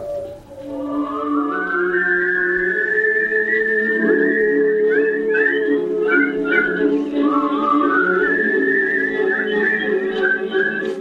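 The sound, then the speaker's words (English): A woman whistles a slow, low-pitched tune by breathing out, with long sustained notes and gliding pitch changes, heard clear with no talking. “When we listen to that and we're starting to realize just how many people whistle, how do you feel when you whistle?”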